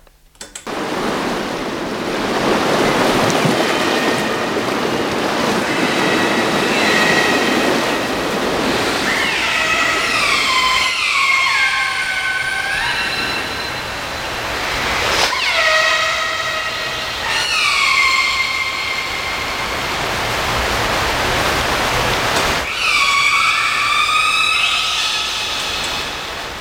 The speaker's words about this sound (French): Tu connais le cri de la baleine? Non. Alors écoute ça.